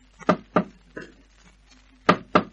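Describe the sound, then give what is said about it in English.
Knocking on a wooden door at the top of a wooden flight of steps at a waterfront warehouse: two firm raps, a softer third, then after a short pause two more raps, a deliberate prearranged signal knock with no voices. “At the top, there was a wooden door. She knocked.”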